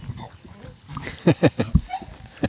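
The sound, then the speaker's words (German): A dog snuffles and grunts in a few short, rough bursts after smelling a sausage, with quieter sniffing and background murmur between them. “Der Hund hat die Wurst gerochen, glaube ich.”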